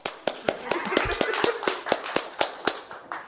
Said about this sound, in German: deswegen, also auch Applaus.